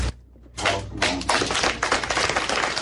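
After a brief quiet moment, an audience breaks into steady clapping, a dense crackle of many hands that holds at an even loudness to the end.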